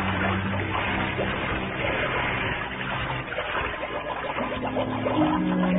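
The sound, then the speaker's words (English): A scuba diver wearing an air tank, mask and flippers goes over the side of a boat at the edge of a coral outcropping and plunges into the water, followed by a steady, loud rush of churning, bubbling water that fills the whole stretch with no talking. “And then I went on over the side.”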